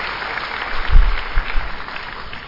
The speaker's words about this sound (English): Thank you so much for that lovely song. Can we have another huge round of applause? That was a very brave attempt.